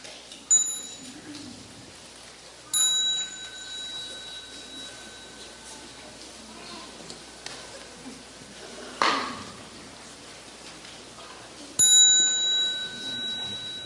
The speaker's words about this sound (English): So when you hear the little bell, please stand up and bow to the Sangha before you go out and continue your practice.